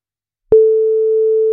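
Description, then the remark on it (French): After a brief silence, a single steady telephone ringback tone begins and holds loud and unbroken to the end, a clean electronic pitch heard alone with no voices: the second ring of a call placed by radio station RCI to a prize draw winner. “Deuxième sonnerie.”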